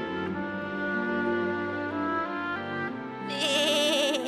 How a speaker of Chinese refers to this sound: 哎，这是什么声音？那边就是山洞的出口，我可以出去了。什么东西正在跑过来呀？是一只，哎，是一只小羊，是洋洋，一定是洋洋